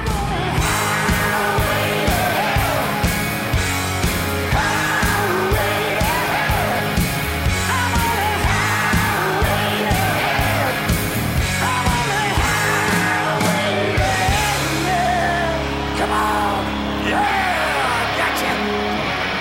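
A loud hard rock song with raspy, shouted vocals over driving drums and distorted guitars, playing continuously at full intensity, with the band dropping to a heavier, steadier groove near the end.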